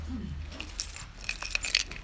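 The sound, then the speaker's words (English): A bunch of keys jingles and clinks in a quick, irregular series of bright metallic rattles over a low background hum. “Someone tell me, what does a key do?”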